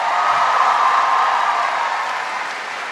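A crowd applauds in a steady, dense wash of clapping that holds loud for about three seconds and eases off slightly toward the end, with no voices heard.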